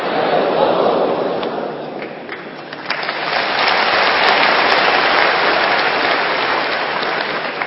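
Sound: audience clapping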